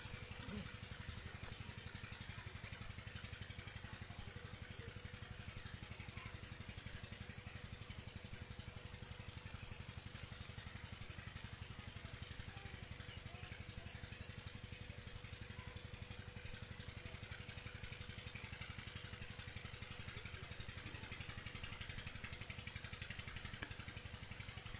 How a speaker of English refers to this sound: Hear only the sounds which naturally come in the environment. Maybe you hear some birds, hear everything, but please do not listen to the water pump.